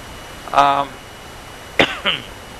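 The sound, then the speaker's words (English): A short voiced throat sound, then after a pause a sharp cough burst with a second smaller catch, from a person with ribs hurt in a fall on a driveway, trying to cough slowly. “When I cough, I try to do it slowly.”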